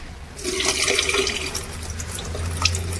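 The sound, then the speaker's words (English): Water is poured steadily down a sink with a rushing, gurgling splash, starting abruptly and continuing, with a low hum underneath and no voices. “So do you want to just pour some of that water down the sink then”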